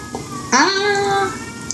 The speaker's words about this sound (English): I think that's my cue to go because I think my cat is getting eaten. Oh, I hear that. By, yes, another cat. There's a cat out here, a stray cat we've named Satan. Because of that sound. That was pretty much it. That was the call.